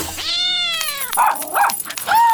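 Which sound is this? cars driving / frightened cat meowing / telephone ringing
frightened cat meowing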